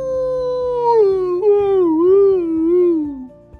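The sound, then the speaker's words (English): A very sleepy dog, Lucas, tries to bark but gives a drawn-out, whiny vocal that wavers in pitch and then sinks into a yawn-like sigh, fairly loud over faint rhythmic ticking. “I think Lucas was trying to bark, but then it turned into a yawn because Lucas was very sleepy.”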